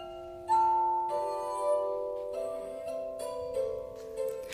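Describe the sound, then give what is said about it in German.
Glasses rubbed with wet fingers sing in sustained, pure ringing tones, several pitches overlapping and shifting like a slow chord progression, steady and fairly loud with no talking. “Da traf der Klang von singenden, mit befeuchteten Fingern angestrichenen Gläsern den Nerv des kunstsinnigen Publikums.”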